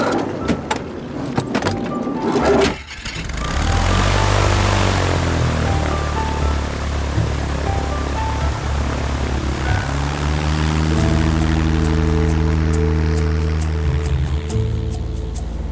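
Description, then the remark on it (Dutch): A propeller airplane's engine drones loudly for the whole stretch, its pitch shifting and rising as it takes off and then holding a steady, buzzing roar in flight. “Stap maar in het vliegtuig allemaal.”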